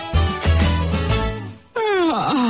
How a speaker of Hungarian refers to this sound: …, mi van veled? Folyton ásítozol.